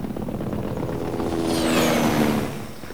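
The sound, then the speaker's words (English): A helicopter's engine roars steadily over a jungle canopy, swelling louder and then easing off as its whining pitch bends downward while it passes over. No voices, just the continuous mechanical drone. “A helicopter sweeps over the jungle canopy.”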